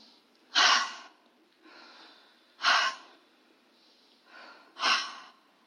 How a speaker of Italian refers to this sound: Fai 3 respiri profondi, inspirando dal naso ed espirando dalla bocca in modo veloce.